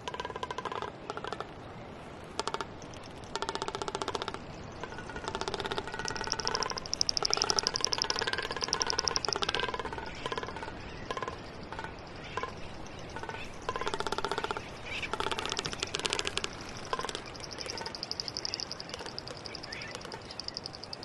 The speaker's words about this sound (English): What we're hearing is the tapping noise of a male frigate bird displaying in front of females. And what he does, he has a red throat pouch that he can inflate, and he can make a drumming sound with it.